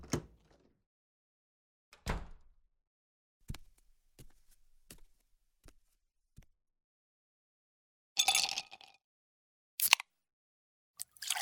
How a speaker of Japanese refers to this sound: 自分の部屋だからって急にドアを開けないでください。